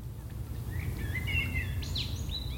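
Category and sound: bird, blackbird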